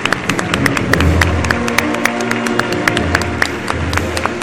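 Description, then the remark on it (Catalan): Steady applause from a large audience at a Moros i Cristians festival ceremony for the 2024 Moorish ambassador, represented by the head of the filà, dense overlapping claps at a constant loud level with a low murmur of crowd underneath, continuing without a break. “Un fort aplaudiment.”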